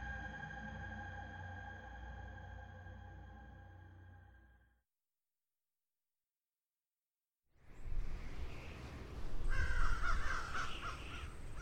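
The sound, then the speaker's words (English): Harsh crow caws ring out over a steady, droning background, then cut off to a few seconds of silence before a noisier burst of cawing and rushing, wind-like sound returns. “The crows were coming again.”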